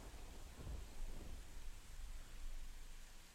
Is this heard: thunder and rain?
yes